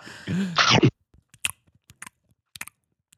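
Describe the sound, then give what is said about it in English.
Wet, smacking chewing of bubblegum: a brief voiced mouth sound, then a quiet, irregular series of sticky clicks and smacks with short pauses between them. “I'm chewing bubblegum.”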